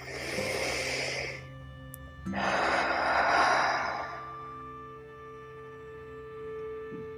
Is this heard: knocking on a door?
no